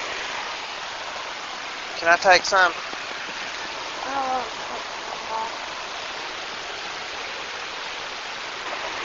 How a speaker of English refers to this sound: Whitewater Falls is 441 feet in height. The biggest waterfall I've ever seen by far. Beautiful. I think I'll just let you hear some of the falls for a few seconds.